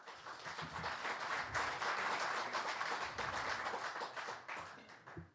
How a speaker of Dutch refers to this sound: Neem aan dat het applaus ook niet voor mij is. En ik heb nog niks gezegd.